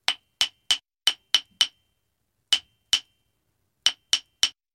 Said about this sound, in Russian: Дед мастерил, молотком стучал.